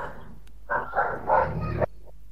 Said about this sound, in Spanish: Ok, hermano, lo que pasa es que tengo un perro que está ladre y ladre y no me deja.